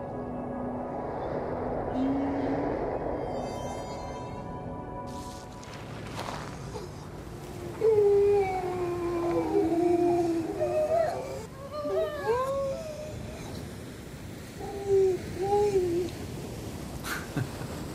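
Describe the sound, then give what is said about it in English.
Eerie, wavering seal song: several long, sliding wails rise and fall over a steady hiss of background noise, with short pauses between calls and a few fainter cries. “The thing I love about that sound is that it really is the sound of quite a, you know, we're in a very strange place, and that is a very strange, haunting, quite discomforting song.”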